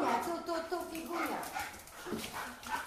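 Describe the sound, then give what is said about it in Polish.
A young female Labrador, Figa, who is being adopted, yips and whines excitedly, a steady run of high, eager vocalizations lasting a few seconds. “To jest możliwe, że ten pies już wie, że zostanie adoptowany i tak się cieszy?”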